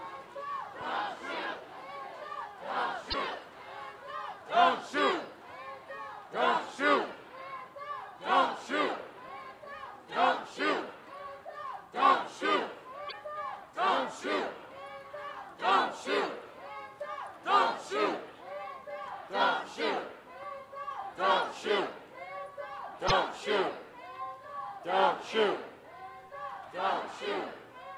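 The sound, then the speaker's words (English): A marching crowd of about 500 chants in unison, a loud rhythmic call repeating steadily about once a second for the whole stretch, many voices blended together, passing Main Street from the Free Speech Pavilion toward a Barnes & Noble. “I'd say it's about a crowd of 500.”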